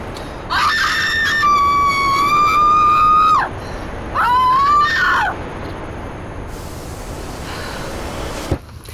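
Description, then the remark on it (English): A person lets out two long, loud screams in a row, the first sustained for a few seconds and the second shorter, with a brief breath between them and quiet after. “I'd like to scream.”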